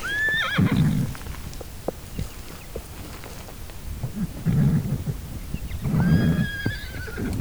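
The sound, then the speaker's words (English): Six wild horses in the mountainous Virginia range whinny loudly at the start and again near the end, high shrill calls over low rumbling snorts, with hoof clops as they move up a hill and rustling movement in between, outdoors. “She and the five others clop further up the hill and then calmly go back to grazing.”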